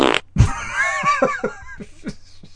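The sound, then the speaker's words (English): A short, low, blubbery fart sound pops out near the start, followed by a run of breathy, bouncing laughter that keeps going in quick pulses. “Presumably, though, there are now people on her social media who are buying her farts.”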